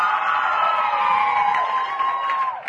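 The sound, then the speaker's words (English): A large crowd cheers and whoops loudly, applauding in answer to the question of who knew that Ellen was gay, a dense sustained roar of voices with high shrieks rising above it, continuous for a few seconds before tapering slightly at the end. “How many people knew that Ellen was gay by applause?”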